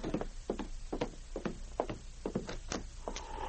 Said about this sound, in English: He had just finished when there came a knock at the door.